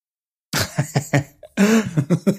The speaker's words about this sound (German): Aber was hustet meine Frau jetzt? Meine Ehefrau ist am Husten. Vielleicht muss ich gleich mal bei ihr vorbeigucken.